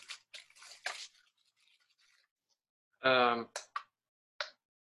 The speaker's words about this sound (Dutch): Kunnen jullie dit horen? Een metronoom? Kunnen jullie deze metronoom horen? Ja, oké, cool. Dus het gaat veel te snel.